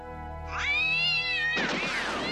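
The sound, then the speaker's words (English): A cat lets out a long, drawn-out meow with a rising then wavering pitch, fairly loud, ending in a rougher, noisier yowl. “I don't suppose you have a cat? Well, one out of three.”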